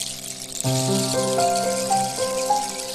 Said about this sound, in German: Sie hörte das Plätschern des Wassers die ganze Nacht.